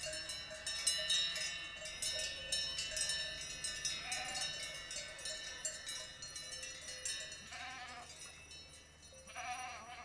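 A dense, continuous jangle of many livestock bells in the Doubs clanking unevenly over one another, bright and metallic, with a few animal bleats rising briefly near the end.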